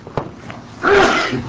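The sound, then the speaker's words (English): A single sharp sneeze bursts out after a quiet moment, loud, with a brief breathy intake before it and no talking. “Bless you.”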